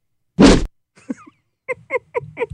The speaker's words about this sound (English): Can we play the whoosh one more time?